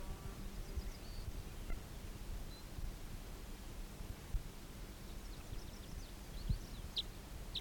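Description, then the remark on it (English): Faint, high bird chirps from a recording of bird 319 come in scattered bursts, a few brief notes early on and a busier cluster near the end, over steady low rumbling noise. No one speaks. “Recording bird 319 again.”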